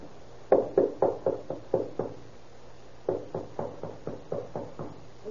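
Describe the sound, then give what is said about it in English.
A police officer raps on a room door in two quick bursts of knocks, about eight, then a short pause and about ten more, fairly sharp over a low steady hum. “Knock first and tell him what he says for.”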